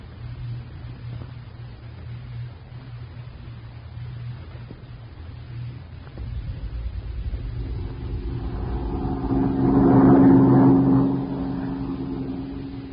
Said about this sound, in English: Life depends on the pilot of an airplane which at this moment is ripping its way blindly through a fog that has closed in so thickly the pilot can't see to the end of his ship's wing.